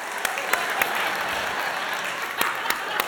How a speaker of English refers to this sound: Thanks for clapping.